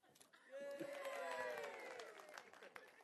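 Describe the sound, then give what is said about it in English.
An audience breaks into clapping mixed with a rising, sustained cheer of voices, loud, lasting a couple of seconds before thinning out into scattered claps, applauding a good throw of the speaker's glasses to him. “See if you can get, if you get a good shot, you'll get a good clap.”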